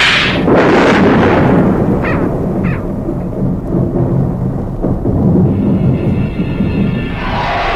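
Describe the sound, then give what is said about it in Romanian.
Deep, rolling thunder rumbles continuously and loudly, with a few sharper cracks breaking through the low booming as a storm approaches. “Ah, furtuna se apropie.”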